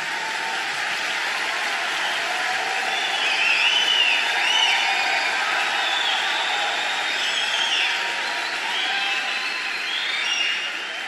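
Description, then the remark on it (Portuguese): A large crowd applauds loudly, a dense, steady wash of clapping that holds for the whole stretch, swelling slightly midway, with faint cheers and whistles rising above it. “Pode aplaudir bem forte.”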